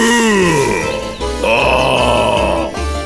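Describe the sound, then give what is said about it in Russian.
A human voice imitates a bear's growl: a loud, low, rough rumbling roar that starts with a falling pitch, then swells into a sustained throaty snarl lasting about three seconds, with no talking. “Пошел медведь к избушке и зарычал.”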